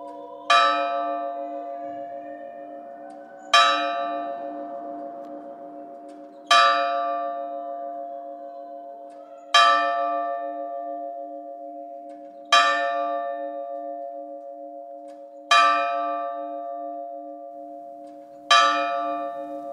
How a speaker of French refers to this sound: Un peu plus haut dans la même rue, on peut entendre la cloche sonner à toute heure et demi-heure. Et si l'on prête bien l'oreille, on peut entendre distinctement sa résonance.